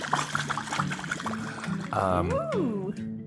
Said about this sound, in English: About the best thing this drink is for is blowing bubbles in. Okay, let's blow some bubbles.